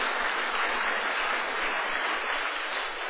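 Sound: audience applauding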